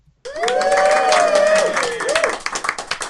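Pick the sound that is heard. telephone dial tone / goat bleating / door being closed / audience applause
audience applause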